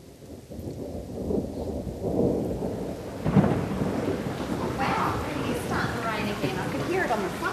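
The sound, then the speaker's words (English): Steady rain pours down in Hobart after weeks of hot weather and fires, with a dense hiss, while low rumbles of thunder roll, swelling and fading throughout. “It's finally raining in Hobart after weeks of hot weather and fires that have scorched the very soul of the island.”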